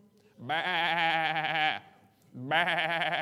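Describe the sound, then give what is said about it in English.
Two loud, quavering sheep bleats, the first long and drawn out, the second starting after a short pause and running to the end. “You just start making some noise, letting the shepherd know, hey, there's something wrong over here.”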